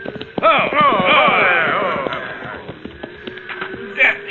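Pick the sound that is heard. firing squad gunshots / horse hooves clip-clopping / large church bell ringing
horse hooves clip-clopping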